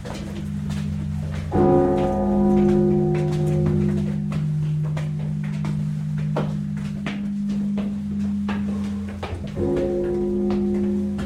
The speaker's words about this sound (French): Le frère Antipe, un pope décharné et chaleureux, fait sonner les 16 cloches de la laure Alexandre Nevski.